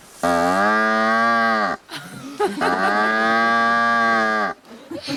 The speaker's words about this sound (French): Alors là, par exemple, on va écouter ce qu'il fait pour commencer avec la tige de la rhubarbe.